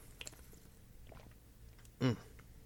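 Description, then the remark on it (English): Quiet sipping of water: soft wet mouth clicks and slurps, then a short, louder gulp or swallow near the end. “Water.”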